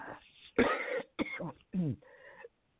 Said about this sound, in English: Of course, I had to cough. Oh, my goodness.